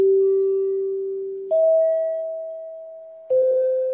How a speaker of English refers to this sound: because the announcers at the station would now need a cue, they would need to know when to go to their break to give their identifications, the NBC chimes were born